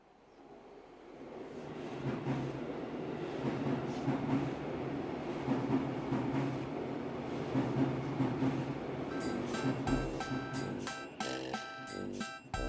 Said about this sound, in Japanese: 電車、僕は生きる元気を運ぶ電車。